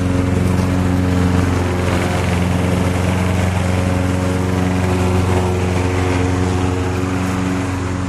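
A gas lawn mower engine runs steadily and loudly up close, a constant droning hum with strong low harmonics that holds evenly for the whole stretch, with no voices.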